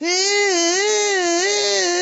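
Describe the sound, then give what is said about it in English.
A voice imitates the engine whine of a Tupolev Tu-154 airplane: one loud, sustained, buzzy tone lasting about two seconds, its pitch wavering slowly up and down, with no words spoken. “You sound like a Tupolev engine.”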